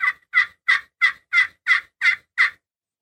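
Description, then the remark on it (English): A raspy old turkey hen yelp played on a call: eight evenly spaced, coarse notes in a steady rhythm, loud, with silence after the last one. “The old hen's usually raspier.”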